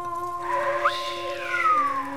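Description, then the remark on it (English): A person whistles a wavering tune, the pitch sliding up and then gently down over a couple of seconds, steady, with no voices around it. “Said the jinn, whistling.”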